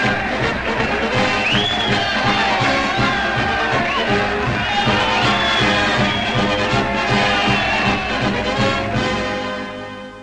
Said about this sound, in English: He waves to his supporters and distributes cigars as they applaud and crowd around him with congratulations.